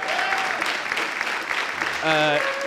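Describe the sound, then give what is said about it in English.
A crowd applauds with steady, dense clapping throughout, and a few shouts or whistles rise above it near the end. The applause is fairly loud and continuous. “And he doesn't say much, but you should clap for him.”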